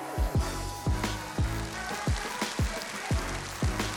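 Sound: audience applause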